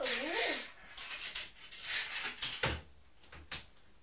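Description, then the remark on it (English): A washing machine door is opened and shut as a child takes laundry out: a brief squeaky creak, then several sharp clunks and rattles spaced a second or so apart, fairly loud. “Don't watch your fingers in the door”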